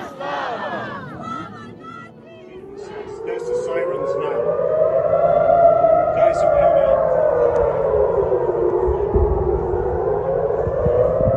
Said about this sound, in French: Une fois n'est pas coutume, ces sirènes, ces alertes aériennes que vous entendez, elles n'ont pas été enregistrées en Ukraine, mais en Israël. C'était samedi dernier, dans la nuit israélienne, le ciel s'est illuminé de dizaines de missiles de drones